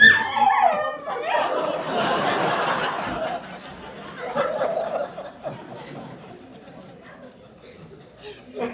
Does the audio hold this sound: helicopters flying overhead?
no